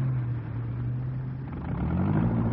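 A tractor engine rumbles at a steady low pitch, then its tone rises and swells louder as it revs up and is driven out to block the road. No one speaks.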